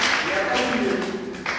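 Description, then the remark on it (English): A church audience claps unto the Lord during a sermon, in a dense, steady wash of applause, with raised voices and cheering blended in throughout. “Can you clap unto the Lord?”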